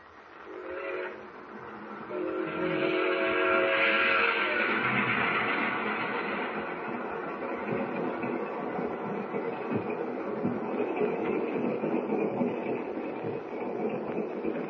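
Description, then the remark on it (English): A train rumbles steadily along the rails across wheat fields, its whistle sounding in a sustained harmonic blast early on, then the clattering roll continues at a constant, fairly loud level with no voices. “it hardly seems possible that last night we were up in the North Woods and tonight we're rolling across wheat fields.”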